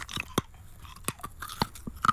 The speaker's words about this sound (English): This is using your imagination, your senses, to be able to identify a mint just from the crunching noise of being eaten.